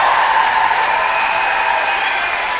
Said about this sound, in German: Das sind die Techniker Licht, Ton, Sound und ich finde, das ist einen fetten Applaus wert.